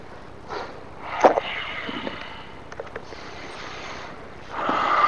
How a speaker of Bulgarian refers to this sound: И сега дишаме. Насочи сега твоя ум в дишането. Наблюдавай дишането си, да има само дишане и нищо друго. Само едно дишане.